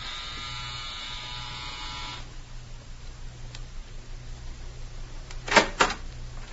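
A harsh, buzzing doorbell buzzer at the front door of Judge Proctor's house rings steadily for about two seconds and then stops, leaving a low hum, followed by a short clattering knock near the end.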